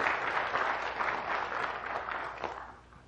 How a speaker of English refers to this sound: Everybody give Blaine a big round of applause, would you?